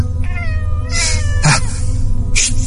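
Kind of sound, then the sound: animal, angry cat meowing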